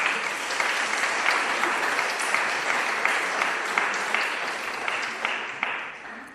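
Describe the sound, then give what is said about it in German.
An audience applauds steadily, a dense wash of many hands clapping at once with a few sharper claps standing out, fading slightly toward the end. “Das finde ich toll, dass geklatscht wird.”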